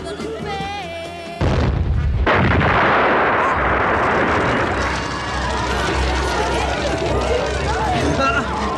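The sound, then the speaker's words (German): A sudden, loud explosion of a Porsche car bursts in, followed by a sustained roaring, crackling blaze as the wreck burns. A voice is heard just before the blast and faintly beneath the fire. “Mein Porsche. Oh. Er ist explodiert. Er brennt.”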